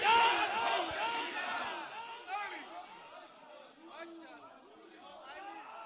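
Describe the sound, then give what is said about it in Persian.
A large crowd of many voices shouts and chants slogans together, including chants about Hussein ibn Ali, a dense overlapping roar that starts loud and settles into a steady, slightly quieter rumble of raised voices. “اونایی که عقب نشستین دست و پاتون رو میبوسن، ببین کی شعار و فریاد میزنه.”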